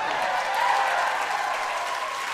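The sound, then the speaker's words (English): A crowd applauds steadily between songs at a live music performance, a dense wash of many hands clapping at an even, fairly loud level throughout, with no one speaking over it. “Let's hear it for awkward banter between songs.”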